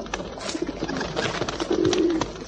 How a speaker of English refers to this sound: Pigeons. Yes. Like pigeons? Sometimes. Oh. When they're not too greedy. Yeah. This lot have eaten all my crumbs. Especially that one. He's too fat to fly.